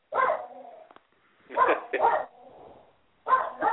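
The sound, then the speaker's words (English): A small dog barks in short, sharp bursts, a few yaps spaced irregularly with brief pauses, clear with no talking over it. “Oh, that's my little dog.”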